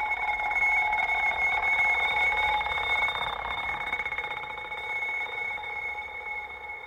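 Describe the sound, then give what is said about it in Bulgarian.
A loud bell rings continuously, a bright, sustained metallic trill with steady high tones that holds for several seconds and fades slightly toward the end, with no voices. “Звънецът силно извънява.”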